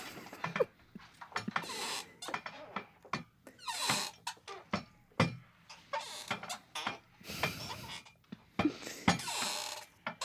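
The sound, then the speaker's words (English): Voices make a rapid string of squeaky, clicking mouth noises in irregular bursts, imitating whale calls. Some squeaks are shrill, others creak or rattle, with no speech between them. “So don't say anything, just make squeaks.”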